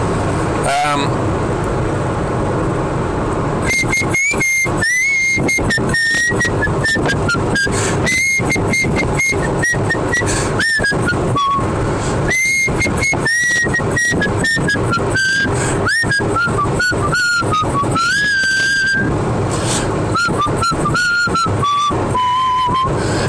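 A person whistles a wandering tune, fairly loud, with short breaks between phrases, over the steady low rumble of a car interior while driving along, trying to whistle in tune.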